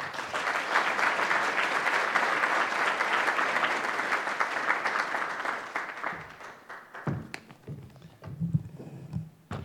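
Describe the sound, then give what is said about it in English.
Sustained audience applause welcoming Senior Vice Foreign Minister Kishi, a dense steady clatter of many hands clapping for about six seconds, then thinning out into a few scattered claps and faint background noise as it dies away. “So would you, with your applause, please welcome and greet Senior Vice Foreign Minister Kishi-san.”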